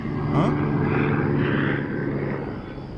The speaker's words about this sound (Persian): یه ستاره تو آسمون پیدا شد. یه همچین ستاره تو طبیعت پیدا نمیشه. هلیکوپتره.